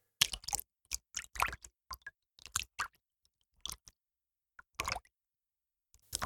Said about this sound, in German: Um das Plätschern des Sees nachzumachen, füllt ihr die Schüssel mit Wasser und erzeugt mit euren Händen Plätschern oder wellenartige Geräusche.